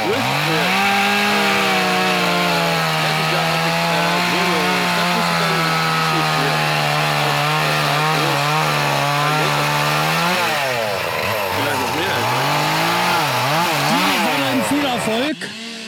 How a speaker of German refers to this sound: Du wirfst jetzt wieder deine Kettensäge an, ja, damit das der dritte Affe fertig wird.